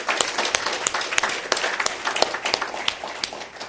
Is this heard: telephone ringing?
no